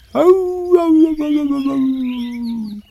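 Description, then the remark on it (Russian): A wolf in a forest lets out a single long, plaintive howl, loud, its pitch sliding slowly downward for nearly three seconds before cutting off. No one speaks. “Олень гулял по лесу и вдруг слышит жалобный вой.”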